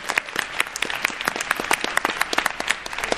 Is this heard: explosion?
no